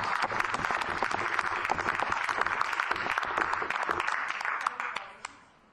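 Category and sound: crowd, audience applauding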